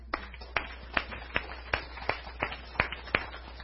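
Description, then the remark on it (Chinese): About nine sharp, crisp claps in a fairly steady rhythm, each roughly half a second apart, as a church audience begins to applaud people asked to stand up, with no voices over them. “让他们站起来好吧，我们能够为他们鼓鼓掌。”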